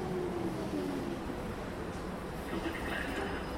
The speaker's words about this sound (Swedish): När vi sen sätter oss på tunnelbanan in mot stan förstår jag vad hon menar.